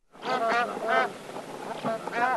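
A bar-headed goose gives a series of nasal, honking calls, about four or five loud bursts in quick succession, over a steady windy outdoor background.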